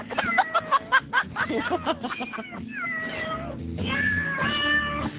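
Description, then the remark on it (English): A cat meows repeatedly in insistent, drawn-out yowls with a raspy, demanding tone, close and fairly loud, continuing through the whole stretch without pause. “Siamese. Yeah. Or Burmese.”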